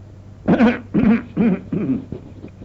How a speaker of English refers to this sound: I wish I'd get rid of this cough.